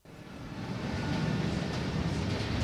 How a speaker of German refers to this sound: Er tönt wie jeden anderen Zug auch. Er ist kurz und hat eine eigenartige Form. Aber wenn wir ehrlich sind, hätten wir ihn fast verpasst.